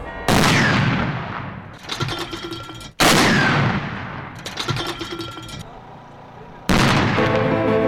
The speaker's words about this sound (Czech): U znak sećanja na sovjetske heroje koji su poginuli u Stalingradskoj bici i njihove podvige, prvi put je na godišnjicu istovremeno izvršena počasna paljba iz artiljerijskih oruđa u četiri ruska grada heroja.